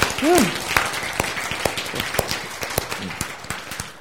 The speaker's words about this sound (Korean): 박수.